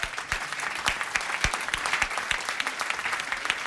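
An audience claps steadily during a live radio broadcast on Radio Fadjet in Nancy, Lorraine: a dense patter of many hands with sharper individual claps popping out, sustained at moderate loudness throughout without any talking.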